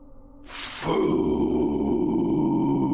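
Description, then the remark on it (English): A deep monster growl swells in after a brief rasping burst, then holds as a loud, sustained guttural rumble with a rough, throaty texture until the end, as the creature's face opens into four large flaps. No one speaks. “The thing growled, and its face opened into four large flaps.”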